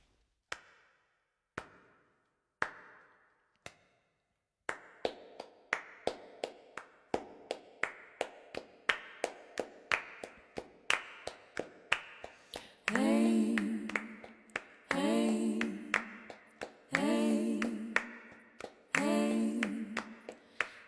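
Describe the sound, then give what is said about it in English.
Sharp hand claps, sparse at first, settle into a steady, brisk rhythm. Midway, voices of singers from Iran and Serbia singing in harmony come in over the continuing clapping, in bursts. “unusual and compelling harmonies held together on a simple bed of hand clapping.”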